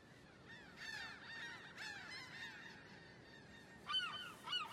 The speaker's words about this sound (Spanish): Álvaro mira las gaviotas que planean en el aire.